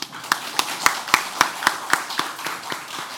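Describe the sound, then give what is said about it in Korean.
An audience claps together to give thanks and glory to Jesus, in a steady, quick rhythm, about a dozen sharp, crisp beats over a low wash of crowd noise, softening slightly toward the end. “십자가에서 진짜 우리의 질병과 고통, 죄와 저주를 담당하시려고 정말 죽기까지 피 흘리신 예수님께 우리가 감사와 영광의 박수를 올려야 될 것입니다.”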